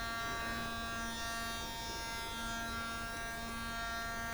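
An electric toothbrush buzzes steadily, a continuous high-pitched motor hum with a faint pulsing quality that runs through the whole moment without pause, as its notification to change sides. No one speaks.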